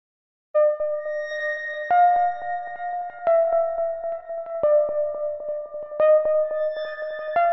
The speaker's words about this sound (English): So we've just heard the chimes at midnight.